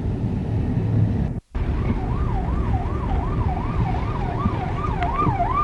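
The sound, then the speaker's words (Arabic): Steady rush-hour street traffic at nine o'clock rumbles. An emergency siren wails up and down continuously over it, and there is one brief moment of silence early on. “في زحمة الساعة 9 الآن، هذا هو في زحمة.”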